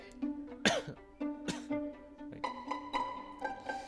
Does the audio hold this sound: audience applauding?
no